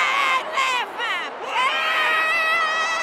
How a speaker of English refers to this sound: The woman seated behind me couldn't stop shouting her name.